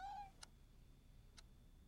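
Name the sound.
cat meowing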